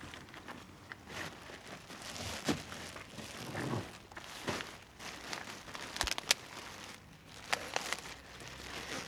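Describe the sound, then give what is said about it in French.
Plastic garbage bags crinkle and rustle continuously as gleaners rummage through them in silence, searching among the papers, with sharper crackles and rattles breaking through every few seconds and no voices. “On voit quand même la concentration des glaneurs au silence et on entend juste le bruit des sacs.”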